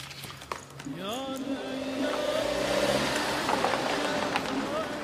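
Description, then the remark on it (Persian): A car engine revs up with a rising whine, then settles into a steady hum as the car pulls up and parks in front of the Mashbakh café restaurant at night, set against background noise. “شب حامد ماشینش رو جلوی کافه رستوران مشبخ پارک میکنه.”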